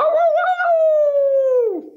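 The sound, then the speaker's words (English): A person imitates a wolf howl, a single sustained, loud vocal tone that holds steady for nearly two seconds before sliding downward and trailing off at the end. “That was definitely a wolf, not a hound dog.”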